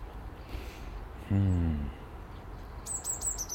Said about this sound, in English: Loads of wee birds this morning, all flitting about. Sparrows, blue tits, grey tits, coal tits.